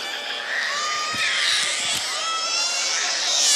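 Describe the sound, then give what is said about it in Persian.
A crowd of people crying and wailing together, many high overlapping voices forming a dense, continuous and fairly loud sound, with a few dull thumps underneath. “قربونت برم، من طاقت ندارم شماها گریه کنی.”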